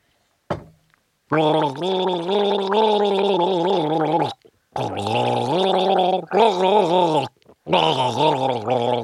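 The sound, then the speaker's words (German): A person gargles a song melody for listeners to guess, producing a bubbling, wavering voiced tone whose pitch rises and falls like a melody, in several sustained phrases separated by short breaths. “Entschuldigung, der Gurgler ist natürlich nicht besonders gut im Gurgeln ausgebildet.”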